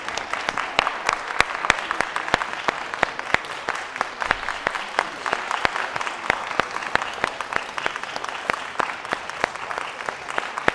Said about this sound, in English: Have to applaud.